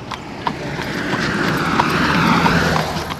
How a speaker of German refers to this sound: An unserem Buggy brausen jedoch einige Autos ziemlich dicht vorbei.